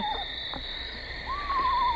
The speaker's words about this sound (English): we coincidentally profiled the Eastern Screech Owl, and here you are, the very first caller, coincidentally calling about the same bird